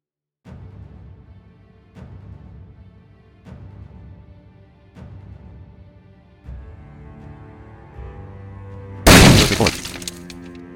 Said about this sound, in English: A barrel being smashed sound should play almost directly after your screen reader finishes reading this text. If the text is cut off, or there is a large gap after the speech finishes, you should run the calibration process again.